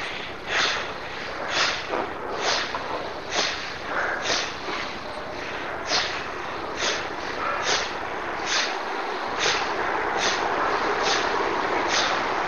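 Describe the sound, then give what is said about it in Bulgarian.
Forceful, rhythmic bellows breathing: about sixteen sharp, noisy breath bursts at a steady pace of roughly one per second, loud and breathy over a constant background hiss, with no talking. “силата да проникне в цялото тяло, бастрика дишане, дихателна практика, която събужда подсъзнанието и вади от него всичко, което има да се вади навън, с мощно вадене навън”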